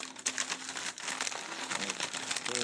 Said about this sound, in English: Looks like we removed the chimichanga from the wrapper.